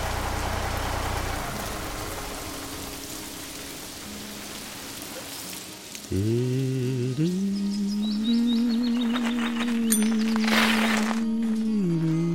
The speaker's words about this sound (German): Das regnet doch!